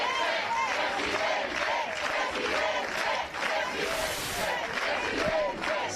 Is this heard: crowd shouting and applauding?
yes